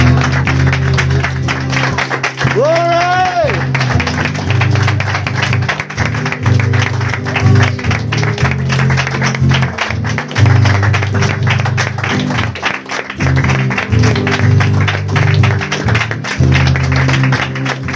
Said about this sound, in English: Let's give a hand clap of praise for Him. Thank you, Lord.